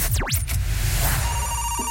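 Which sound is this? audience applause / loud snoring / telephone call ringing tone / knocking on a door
telephone call ringing tone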